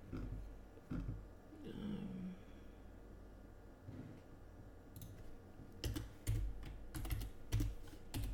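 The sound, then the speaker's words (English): Someone types the word "woman" on a computer keyboard: scattered key clicks early on, then a quicker burst of sharp, irregular taps near the end, over a low background rumble. “Typing in woman.”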